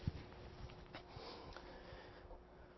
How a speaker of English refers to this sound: Got to clear my throat.